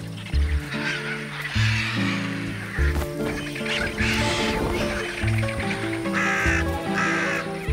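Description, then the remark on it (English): A crow caws harshly again and again, loud, its rasping calls coming in uneven bursts with other squawking birds mixed in; no one speaks. “Vulture's distracted. Crow makes his move.”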